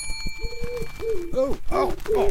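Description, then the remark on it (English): A voice imitates pigeon cooing: a run of low, warbling coos that rise and bend in pitch, repeated several times over a couple of seconds and growing louder and throatier toward the end. “Now, be a pigeon.”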